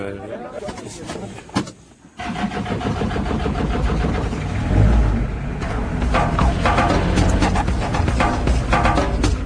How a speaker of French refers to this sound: Ça, c'est un camion qui transporte des minerais d'habitude.